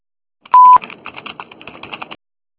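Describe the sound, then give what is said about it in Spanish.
A single short, loud electronic answering machine beep tone, followed by about a second and a half of rapid, softer clicking and tapping sounds, with no voices. “Después del tono, ¿aló? Grabe su mensaje.”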